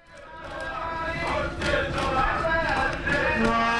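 A crowd of soccer fans on a train from Warsaw to Berlin, on their way to a World Cup game, sings and chants together, loud and ragged, with many voices rising and falling in rough unison and a steady dense roar underneath.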